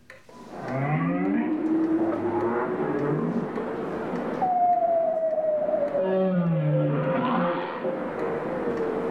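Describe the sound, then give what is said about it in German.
Low, drawn-out moaning calls of a bowhead whale, a baleen whale, singing underwater, with rich harmonic tones that slide and waver in pitch, and a long descending whistle-like note through the middle, over a steady rumbling background. “Hier ist ein Grönlandwal.”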